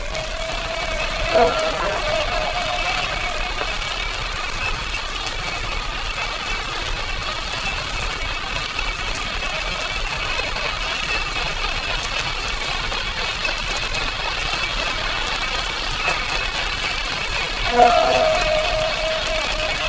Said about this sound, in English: Inasmuch as the rate of these beats is very high, they obviously represent blade frequency and not RPM. Notice also the characteristic hum or whine of the modern sub.